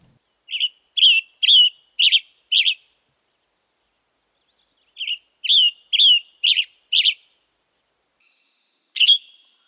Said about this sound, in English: Another bird that we can find out that has a similar song to both the robin and the black-headed grosbeak is the western tanager.